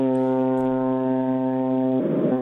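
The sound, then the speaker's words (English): A ship's horn from a ship approaching Osaka blasts in one long, loud, steady low-pitched tone with rich harmonics, swelling into a rougher, buzzier roar near the end. No one speaks. “That's basically saying, I'm here, I'm approaching Osaka, get out of my way.”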